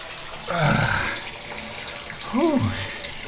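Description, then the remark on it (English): Cold tap water runs steadily into a bathtub over a person's feet, a continuous splashing hiss throughout, while the person, trying to cool off, lets out two short, wavering vocal sounds over it. “Cold water on my feet.”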